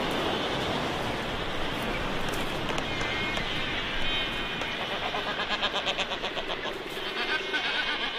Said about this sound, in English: It has the largest albatross colony in the world. There are almost 500,000 albatross here, an astonishing demonstration of how fertile the ocean can be and how much food it can give even to creatures that do not actually live in it.